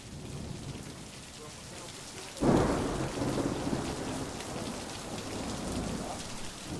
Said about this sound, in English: Welcome to the Italian Alps. It's approaching midnight and a storm is rumbling across the distant mountaintops. Lightning silhouettes the craggy peaks.